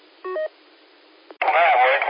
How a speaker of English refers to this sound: Well, it's so clear now that I can hear the cell phone ringing in the background.